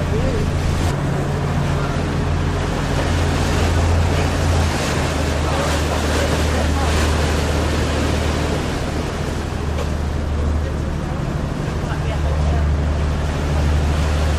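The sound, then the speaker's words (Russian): A small boat chugs steadily across the sea at night toward a beach where it is about to moor, its low motor drone running under a constant wash of waves and wind buffeting the microphone, fairly loud throughout. “Да, я чувствую серьезное намерение нашего плавательного средства припарковаться здесь.”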